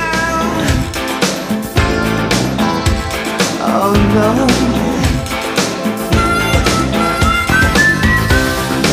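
A whistled melody rides over a full pop song with steady drums, bass and layered instruments, the bright tone gliding upward in short phrases toward the end.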